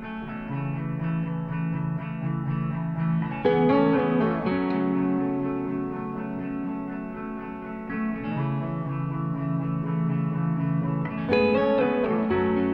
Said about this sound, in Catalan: ens va deixar un CD dels …. Concretament ens va dir que li agradava la cançó …. L'escoltem